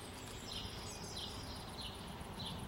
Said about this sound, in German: Stille. Und Bienen. Bäume, Schafe, Vögel. Stille zum Nervöswerden. In der Ferne ein Auto. Dann huscht eine Katze vorbei. Ein Vogel landet auf einem Ast. Eine Taube gurrt, ein Moped irgendwo weit weg, ein Schaf blökt.